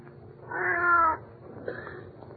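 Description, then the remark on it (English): A cat, Ophelia, lets out a long, drawn-out yowling meow, loud, then a second fainter, shorter cry follows after a brief pause. “Well, for the love of Pete, it's just a cat.”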